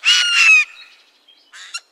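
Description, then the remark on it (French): A Eurasian jay gives a loud, harsh, rasping screech lasting about half a second, trailing off, followed by a shorter second rasp. Noisy and grating, with no talking. “Le jai a un cri rauque et sonore.”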